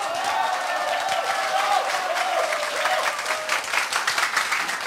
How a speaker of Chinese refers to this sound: 所以既然谈到法拉利，接下来我来给大家一个法拉利的理论，好不好？要不要掌声鼓励一下？